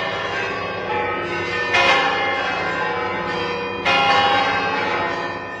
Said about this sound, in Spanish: El sonido de las campanas, campanas que sonarán de forma orquestada y más bellamente aún en el concierto que se ofrece esta noche a partir de las 10 y durante 45 minutos para festejar el primer centenario fundacional de la Cofradía del Rescate.